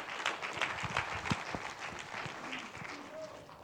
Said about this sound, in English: How many are glad when He sets free, you are free indeed? Give the Lord the hand clap tonight.